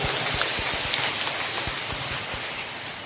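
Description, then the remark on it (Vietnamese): A round of applause from a crowd congratulating the teachers: dense, steady clapping that holds an even loudness for about three seconds, with no voices. “Rồi, một tràng pháo tay nữa để chúc mừng tất cả các thầy, các cô nha.”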